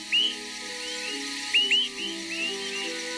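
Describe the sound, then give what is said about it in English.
Four short, rising whistled "heep" notes of a Swainson's thrush nocturnal flight call, given by a migrating bird as it flies at night, spaced irregularly and fairly faint, over a steady low hum and background hiss. “Nocturnal migrants of the same species call as they fly, enabling flockmates to stick together.”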